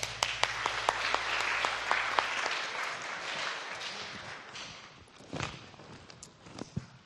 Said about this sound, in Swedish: Tack ska ni ha, lovsångare. Ge dem en applåd.